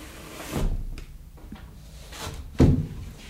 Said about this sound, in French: Je ferme la porte de la véranda parce qu'il fait un peu froid.